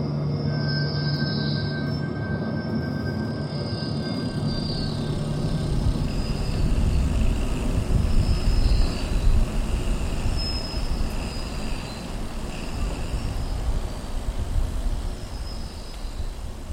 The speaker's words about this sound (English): The escalator's still running, but now it's really squeaky.